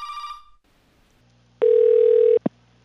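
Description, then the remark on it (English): A single loud, steady electronic ring tone sounds on a phone line during an outgoing call for under a second, then cuts off with a short click as a woman answers the call. No one speaks. “I then call him, and his wife answers the phone.”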